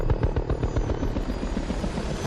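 Helicopter rotors over the jungle during the Vietnam War drone steadily with a rapid, rhythmic low thumping, loud, filling the whole stretch without any voices.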